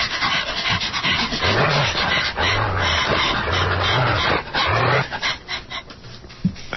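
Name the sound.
dog panting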